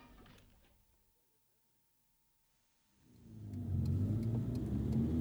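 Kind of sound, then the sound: vehicle, vehicle engine revving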